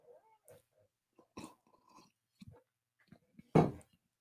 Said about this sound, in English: Another perfect sip of the day. That's incredible coffee we got working right there.